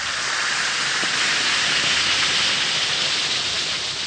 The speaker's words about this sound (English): Simply drop one or two Alka-Seltzer tablets into a glass of water and listen to it fizz.